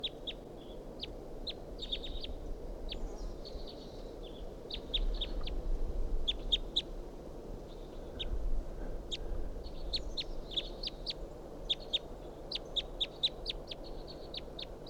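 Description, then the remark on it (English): A wild bird calls over and over with sharp, high chirps in irregular bursts, some clustered in quick pairs, above a steady low rumble. No one speaks. “Wild bird here. Recording, I shot at that bird with a 22 and didn't get him. And this is him.”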